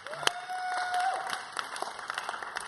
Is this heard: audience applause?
yes